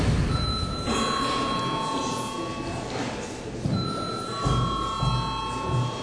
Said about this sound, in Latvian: Lūdzu zvanu.